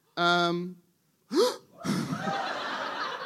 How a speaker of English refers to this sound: Someone gasped as if punched in the tummy.